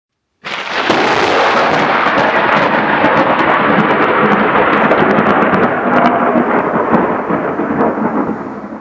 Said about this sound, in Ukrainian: Над містом раптом важко прогуркотів грім.